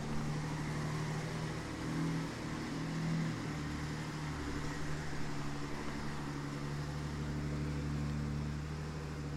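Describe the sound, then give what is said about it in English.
A heavy truck engine rumbles steadily outside as the truck moves, a low droning hum with a slight rise in revving partway through, continuous for the whole stretch with no voices. “Jesus Christ, man, there's a truck moving out here, so I'm just going to chill.”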